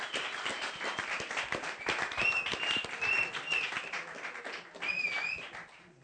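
An audience breaks into dense, steady applause lasting about six seconds, with a few high-pitched whoops rising above the clapping before it tapers off at the end.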